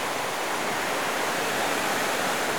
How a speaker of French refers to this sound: Et ça le démontre bien. Ces cascades, cette force. Cette force qui anime.